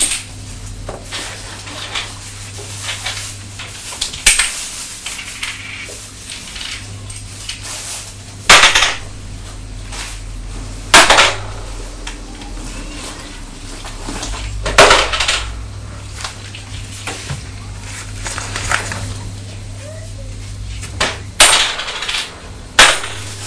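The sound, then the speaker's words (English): Coins tossed one after another into the back of a toy bicycle, making sharp metallic clattering bangs at irregular intervals, over a steady low background hum with no talking. “It makes lots of noise when you're throwing the coins into the back of the bicycle, doesn't it?”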